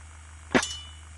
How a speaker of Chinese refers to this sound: 哎呀，哎呀，怎么我筷子也掉地上了？